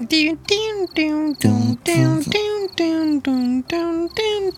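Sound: cricket chirping sound effect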